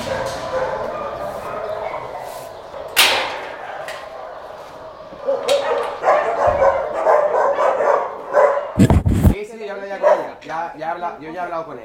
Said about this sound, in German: Sind jetzt in den Gehegen, wo die kleineren Hunde sind und vorwiegend Podenkos. Aber auch ganz andere Hunde.